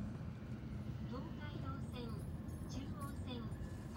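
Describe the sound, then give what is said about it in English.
A steady, loud low rumble of a train slowing to a stop, with faint high-pitched squeals and murmuring voices in the background throughout. “I think the train is stopping.”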